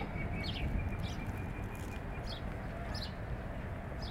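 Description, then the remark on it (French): Birds chirp in short, high, repeated calls, several scattered bursts over a steady low outdoor rumble, moderately quiet. “Des oiseaux, toujours.”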